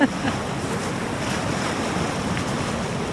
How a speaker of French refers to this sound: là, il y a une vague qui va monter plus haut, il faut qu'on recule.